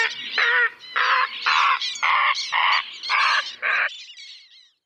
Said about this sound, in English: Until by summer, a cacophony of martins and warblers and herons. Do herons sing?